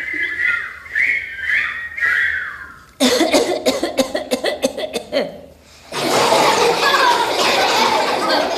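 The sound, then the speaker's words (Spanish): A rapid burst of repeated loud coughs follows a few high whistly tones, then gives way to a steady breathy hiss. No one speaks. “A ver, voy a toser un poquito más.”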